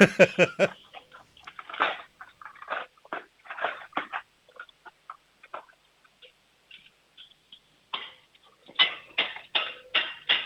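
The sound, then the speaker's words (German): A loud crash of a handful of cutlery dropped into an open kitchen drawer by a 7-year-old girl, followed by scattered metallic clinks and rattles, then another burst of clattering near the end. Sharp, with no voices. “Und jetzt hätte ich gern, dass du in die Küche läufst, die Bestecklade aufmachst, alles Besteck in die Hand nimmst und dann so richtig schön laut reinfallen lässt, das richtig Lärm macht.”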